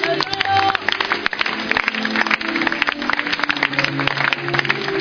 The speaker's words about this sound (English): Give the Lord a clap.